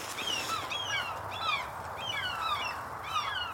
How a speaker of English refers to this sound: There's an osprey with a fish. And the gulls are trying to... The gulls are mobbing it. And it's coming right over our head.